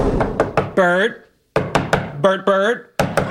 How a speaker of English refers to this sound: Sheldon knocks on Bert's office door.